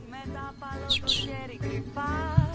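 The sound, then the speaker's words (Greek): Small birds chirp in a couple of quick, high bursts near the middle, set against a steady, tonal background that continues throughout. “Πού είναι αυτά τα πουλάκια, από πού έρχονται?”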